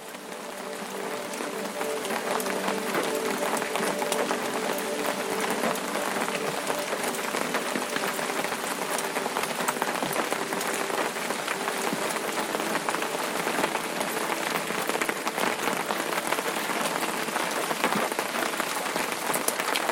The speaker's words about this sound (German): Spürst, wie der Regen auf deinen Schirm prasselt. Ein leises, rhythmisches Trommeln, das dir fast wie Musik vorkommt.